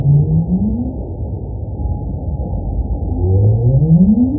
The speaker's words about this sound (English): Oh, and that's the North Atlantic right whale and his up call. Hear how it goes up at the end?